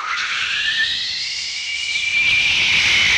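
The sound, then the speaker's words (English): A loud, steady jet engine roar with a high whining tone that rises slightly in pitch, sustained throughout with no voices. “And so the jet engine came along with a...”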